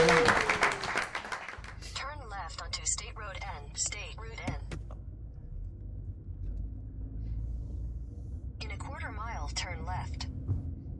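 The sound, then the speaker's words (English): A short, loud burst of crowd applause opens, then cuts off abruptly, giving way to a voice speaking over a steady low rumble like a moving car interior. “So, you know, round of applause for you guys for showing up for something so cool.”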